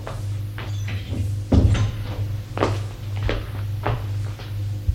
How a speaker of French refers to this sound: Le père va le rejoindre. Frappe à la porte et entre.